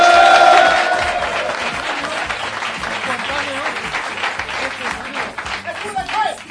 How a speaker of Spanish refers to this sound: Se ha visto que no ha sido un aplauso espontáneo, sino que lo habéis hecho dirigiendo al público, no como yo al principio, que empecé a hablar y empezaron a aplaudir ellos solos.